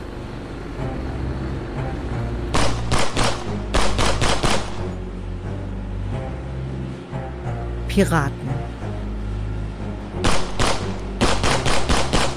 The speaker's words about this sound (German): Es fallen Schüsse. Die Piraten entern das Schiff.